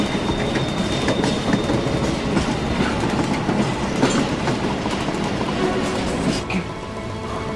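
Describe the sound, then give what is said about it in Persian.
A moving train rumbles and clatters steadily along the rails while sacks are thrown out of its hatch, a dense continuous roar with rhythmic clicking of wheels, loud throughout. “کیسه ها از قطار میفتن پایی.”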